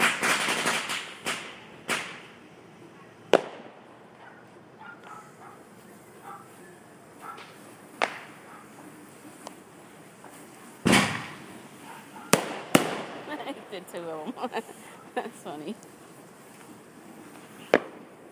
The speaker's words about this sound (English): This will probably go on most of the night. But just in case you're not hearing any fireworks where you are, or something like that. Give you a little taste of what it's like over here.